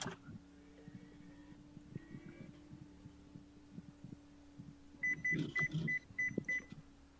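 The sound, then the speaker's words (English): A microwave oven beeps several times in quick succession, short high-pitched tones near the end, over a steady low electrical hum with faint scattered knocks. “Why did I heard a time bomb going off? It was the microwave.”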